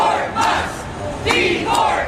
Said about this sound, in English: Protesters at a rally in Tampa, Florida against the Musk mass firings.